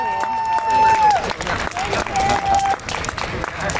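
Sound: crowd cheering and applauding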